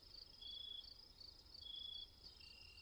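Crickets chirp steadily outdoors at night, a dense high-pitched trill pulsing in longer bursts over a faint low rumble, with no voices present.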